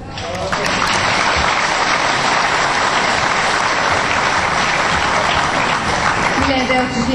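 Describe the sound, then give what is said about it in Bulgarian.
An audience bursts into steady, dense applause that holds at full strength for about six seconds before starting to thin out at the end. “Що ми сега ръкопляската, значи окей.”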